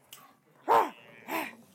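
A pet dog named Millie gives two short, sharp barks roughly half a second apart, moderately loud, with a brief quieter sound just before the first bark and no talking.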